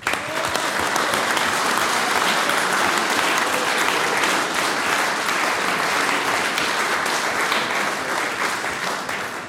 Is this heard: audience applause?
yes